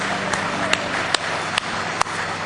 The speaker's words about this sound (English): Why don't you give him a good hand clap of praise in the house of the Lord tonight?